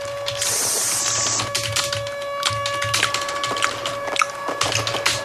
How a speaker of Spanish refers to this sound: Eso que escuchan tecleando es Champi enviando un mail quejándose.